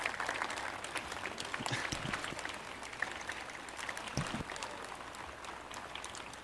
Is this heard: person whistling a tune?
no